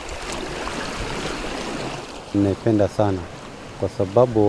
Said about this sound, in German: Langsam bewegt sie sich auf den Ozean zu, bis die Wellen sie umspülen.